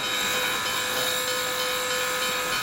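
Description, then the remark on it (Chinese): A steam train lets off a loud, steady hiss of steam that fills the whole stretch, with faint ringing mechanical tones running underneath and no voices, as the train carrying Jackson slowly pulls away from Washington. “汽笛响起，一股蒸汽冒过，火车徐徐驶离，杰克逊心鞠一躬，送行的人群一片寂寞。”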